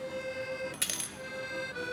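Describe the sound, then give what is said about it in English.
A single bright metallic clink as a coin drops into the cup of a blind accordion player, a short ringing chime over a steady low hum, with no voices. “Mojo, I heard that clink.”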